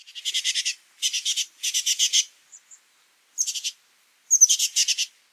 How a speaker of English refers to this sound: Consider a songbird like the oak titmouse of California, Biolophus inornatus.